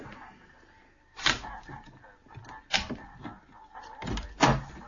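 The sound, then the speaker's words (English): A shop door is unlocked and opened after 7 for customers waiting at the door: a rattling clunk, a second sharp knock, then a louder double thud as it swings, with quiet shuffling in between and no voices. “Customers at the door and it's gone 7. Are you going to open up?”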